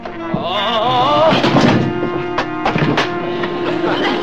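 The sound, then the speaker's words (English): A head bangs into a door with a few dull thuds, loud and abrupt, over a busy background of warbling, music-like tones. “I just banged my head when I hit the door.”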